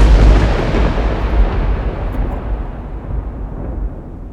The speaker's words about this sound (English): The sky flashed and thunder boomed loud enough to rattle the windows in the van.